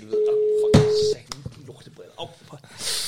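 A loud, steady telephone beep holds for about a second, with a sharp click partway through, then gives way to faint handling clicks and soft, muffled background noise.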